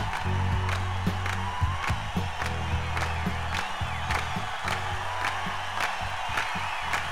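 An audience at a live show claps together in a steady rhythm before the band is introduced, sharp beats repeating over a low, constant hum, with scattered voices and a few whoops rising in the background.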